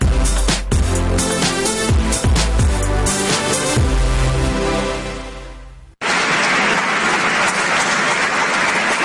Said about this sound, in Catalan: L'aplaudiment del dia. Com ja és habitual, a l'hora de començar el programa, aplaudim una d'aquelles notícies, esdeveniments, iniciatives que al nostre entendre es mereixi aquest reconeixement.